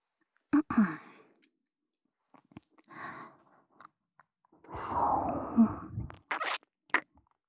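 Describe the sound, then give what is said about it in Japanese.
Close, breathy exhales and soft sighs directly into the microphone, interspersed with brief wet mouth clicks and licking sounds, intimate and quiet with gaps of silence between. “吐息、舐め、吐息、 吐息。”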